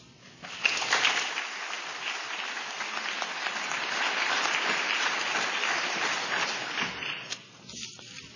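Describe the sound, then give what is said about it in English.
An audience at World Environment Day 2005 in San Francisco breaks into steady applause for Mark Palmer of the SF Environment Department, a dense crackle of many hands clapping at a fairly even loudness for several seconds before it thins and fades out at the end. No one speaks. “Mark himself, we can applaud him as well, also has 30 years nearly in sustainable development activities.”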